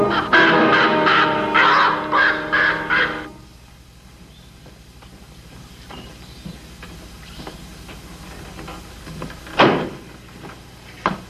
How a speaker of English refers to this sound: That hawk's back again.